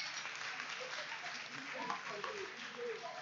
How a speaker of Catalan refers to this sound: Un aplaudiment per ell, home. Molt bé.